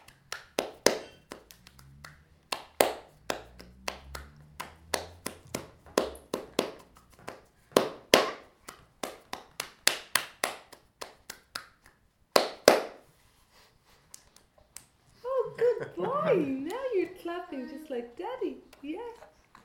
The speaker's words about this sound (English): You're clapping just like Daddy.